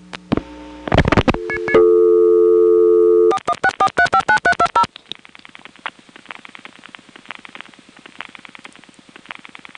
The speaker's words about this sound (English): While we're at the touchtone phone, let's call the number readback 416. We heard it say my number before. This time, let's dial the 7-digit number we're calling from after 416, and it'll come back with high tone plus busy signal.